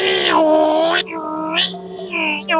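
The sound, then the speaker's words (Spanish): A voice imitates an ambulance siren with loud, wavering wails: a long sustained tone, then several shorter swoops that rise and fall in pitch, with no ordinary speech. “Bueno, un día un señor que tenía una ambulancia se cansó de tener que ir con la ventana abierta gritando cada vez que tenía una emergencia y puso una cosa que sonaba así.”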